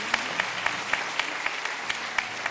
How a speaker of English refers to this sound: Thank you for coming to St. Matthew's on this worship day. Now, after the sermon, if any of our visitors don't have a church home, we welcome you to become part of our great church. Let's give our visitors a hand clap in the name of Jesus.